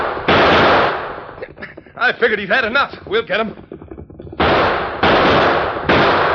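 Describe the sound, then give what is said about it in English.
Several loud gunshots ring out as outlaws fire at the Lone Ranger and his horse, a sharp blast followed by two more in quick succession near the end, with a man's voice speaking briefly between them. “Shoot the horse. Yeah, I'll get him.”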